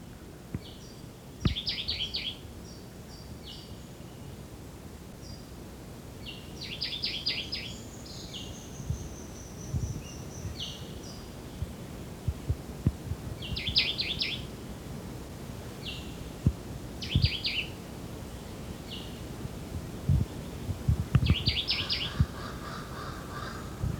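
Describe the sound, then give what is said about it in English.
A Jamaican white-eyed thrush, also called woodbelly, sings short, bright, repeated phrases separated by pauses of several seconds, over a steady low rumble with occasional soft knocks. “Yeah, this is the Jamaican white-eyed or woodbelly.”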